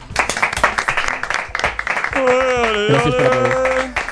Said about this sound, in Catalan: El Futbol 10, i acabo d'obrir, és alegria i competició, perdó, és alegria, hòsties i competició, on al final no és tan important quedar campió, sinó que hem creat una família amb il·lusió i per això ens mereixem aquesta ovació.